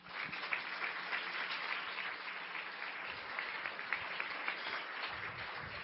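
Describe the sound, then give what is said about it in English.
A crowd applauds steadily for several seconds to welcome a guest speaker, a dense, even patter of many hands clapping with no voices over it. “Would you join me in welcoming our guest”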